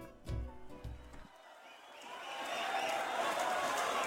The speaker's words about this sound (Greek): Χειροκροτεί το κοινό για το να εξαφανίσει ολόκληρο λεωφορείο.